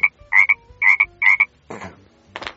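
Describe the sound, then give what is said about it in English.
An American bullfrog (Lithobates catesbeianus) croaks in three evenly spaced double bursts, each a bright, buzzy, nasal note, followed by two rougher, raspier croaks at the end. No one speaks. “The Lithobates catasbionus goes...”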